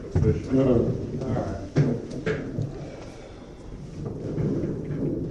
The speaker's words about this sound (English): The chairs are always moving here, though.